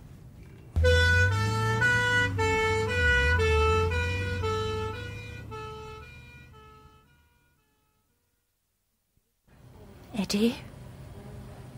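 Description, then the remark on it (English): An ambulance siren wails in a steady two-tone pattern, loud at first and then fading away until it stops. After a short silence, a voice briefly speaks. “Oh, I'm ringing the ambulance.”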